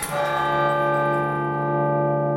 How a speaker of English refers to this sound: Lever goes down, mechanism carries by system wires, rods, in this case, to a clapper. Clapper goes to bells, bell sounds.